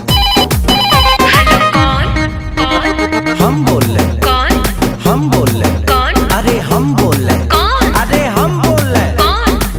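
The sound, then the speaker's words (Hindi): A loud, melodic phone ringtone plays for the whole stretch as a number is called again, with bright chiming tones and repeating downward swooping notes, steady and insistent with no talking over it. “ऐसा बात है तो लगा ले फिर से फोन, देखते हैं साला उठाता है कौन।”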